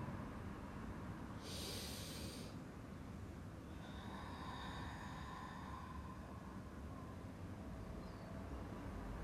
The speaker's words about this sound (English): Breathing, lighten the load. Breathing deeply. Mind still. Heart open.